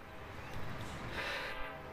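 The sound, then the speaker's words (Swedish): A train horn blows in a sustained, steady tone over the rumble of a passing train in Mexico, a train known there as El Monstrito, fairly loud, with no talking. “Den där tutan du hör där nu,”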